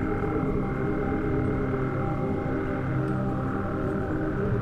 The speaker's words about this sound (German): Aus einer Lichtung mitten zwischen den zwei Baumwipfeln funkelt ein kleiner See zauberhaft unter uns. Frösche stimmen ihr Konzert an, während sich dazwischen das tiefere Rufen einzelner Kröten mischt.